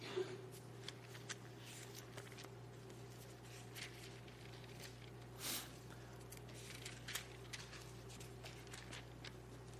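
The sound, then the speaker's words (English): Many people at a Sunday morning church service flip through their Bibles to Matthew chapter 3 at once, producing soft, scattered papery rustles and crinkles in the quiet, with a low steady hum in the background and no one talking. “You know how much I love to hear the pages turning in your Bibles when it gets quiet?”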